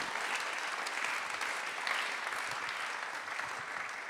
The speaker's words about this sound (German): Ein Applaus für Thea Dorn.